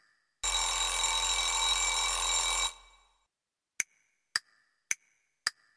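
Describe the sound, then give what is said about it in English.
A loud clock bell rings rapidly and continuously for about two seconds to mark eight o'clock, then stops, followed by four evenly spaced, bright chime strikes, clear with no voices. “I'm ringing to let you know. It's 8 o'clock.”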